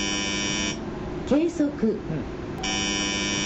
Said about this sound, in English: the automated system emits a warning.